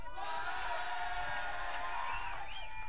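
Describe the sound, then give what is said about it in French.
A crowd cheers and applauds loudly and steadily for a band's guitarist, with a dense wash of clapping and voices, rising whoops and a couple of whistles near the end. “À la guitare, pour l'applaudir très fort,”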